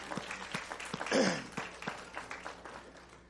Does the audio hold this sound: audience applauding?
yes